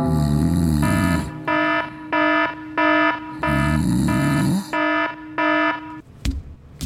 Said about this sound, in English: heard the alarm go off and thought it was time for the game.